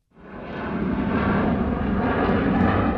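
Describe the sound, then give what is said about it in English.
A loud airplane engine at Detroit Metro Airport, Michigan, roars up quickly and holds a steady, broad rumble, continuous, with no voices over it. “but there is one engine that's revving, actually many engines, that take people to a lot of different places, and local leaders are wheels up on spreading the word.”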